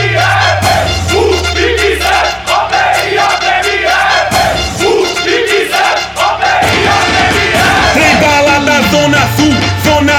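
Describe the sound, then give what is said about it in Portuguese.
A party crowd at a baile funk party screams and cheers loudly and continuously over thumping funk bass, the dense shouting filling the whole stretch, with a falling synth sweep near the end. “Eu quero ouvir o grito das galheiras.”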